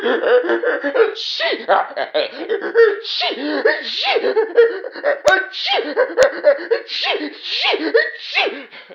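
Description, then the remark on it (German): A voice acts out a king sneezing a long run of sneezes, one after another in quick bursts, loud, mixed with breathy chuckling sounds. “Als die Leute und vor allen Dingen die Prinzessin den König sowas von niesen sahen, er hüpfte ja direkt herum.”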